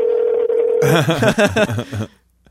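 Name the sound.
telephone keypad dialing tones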